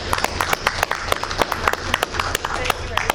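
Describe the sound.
A group claps steadily for a few seconds, dense overlapping hand claps with sharp bright transients, moderately loud, over a low hum of room noise and faint voices.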